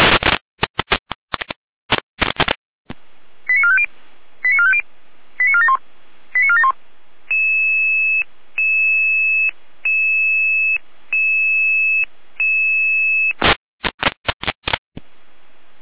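Radio dispatch alerting tones from Jena dispatch, alerting Red Cross Saalfeld units 582 and 7831: crackling data bursts open and close a series of short electronic tone groups, followed by a steady, evenly repeating beeping tone pattern, loud and clear, with no voices.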